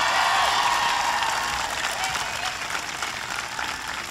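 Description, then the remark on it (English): A crowd applauds Governor Jennifer Granholm as she is acknowledged, a dense, sustained wash of clapping that stays loud throughout with only a slight easing toward the end, and faint cheering mixed in. “Please give Jennifer Granholm a big round of applause.”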